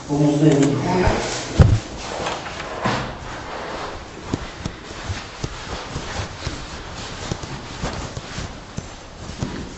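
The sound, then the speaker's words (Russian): A door in a building with rough, unfinished interior finishing is handled: a brief voice, then a solid thud as it's pushed or shut, followed by a scattered series of sharp clacks and knocks from the latch and frame. “Что ж все позакрывали-то, а? Вот такие будут двери, даже в черновой отделке, да?”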